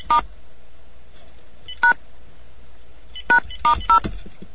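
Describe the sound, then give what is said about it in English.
Telephone keypad tones beep out a dialing sequence of codes into an old answering machine: one tone, a pause, another, then three quick tones close together, each a short, clear dual-pitch bleep over a quiet line hum with no talking. “several three-digit codes are pretty common on the old machines. Yeah, but I'm sure you got to hit pound or star or something”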